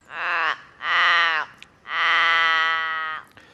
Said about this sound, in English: This is that's the largest of our ravens, and also the one with the deepest call, as you can hear. That is the Forest Raven.